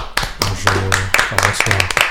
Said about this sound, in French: on t'applaudit très fort.